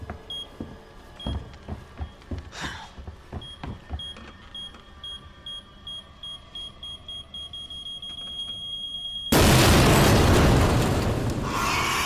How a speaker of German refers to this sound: Aber ja, es gibt ein großes Boom und die Wand bricht auf. Richtig. So, das war mein Fehler. Denn die Explosion verursacht auch, dass ein Regal umfällt und den Zugang zur Bibliothek wieder zusperrt.